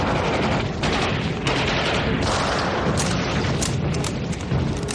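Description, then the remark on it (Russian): Loud, dense battle noise as a soldier methodically works a rifle bolt and fires aimed shots every second or so at attacking tanks and infantry, layered over a constant roar of gunfire and booms. No voices. “Методично передергивая затвор винтовки, Звягинцев ведет прицельный огонь.”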